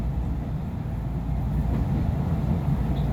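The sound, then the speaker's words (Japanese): The Banetsu Monogatari steam train runs into a tunnel section, heard from inside a carriage as a steady, loud low rumble with faint rattling, continuous throughout and with no voices. “これより列車はトンネル区間に入ります。窓を開けていると煙が車内に入ります。”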